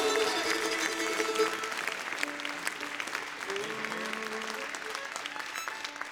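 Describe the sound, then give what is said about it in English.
An audience claps steadily for a bass player being introduced by the band, a dense wash of applause at fairly constant loudness, with faint tonal hints of instruments or voices mixed underneath. “Put a round of applause for him there.”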